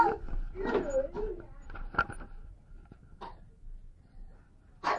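A few short, sharp coughs scattered irregularly, moderately loud, with quieter breathy vocal sounds and rustling between them.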